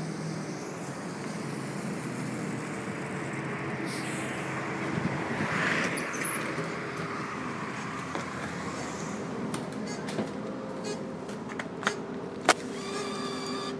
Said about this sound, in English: Let's see if this bus is going to come in the next second. I think this is it.